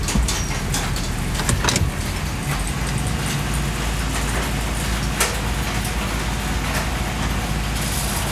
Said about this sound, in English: pulling into the other garage at home.